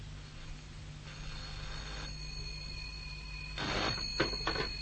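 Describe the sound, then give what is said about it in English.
An old-fashioned telephone bell rings in short, rattling bursts near the end, preceded by a faint steady tone over a low background hum; no one speaks. “And while I waited for Cuts to come back with the rug, a phone call was being made.”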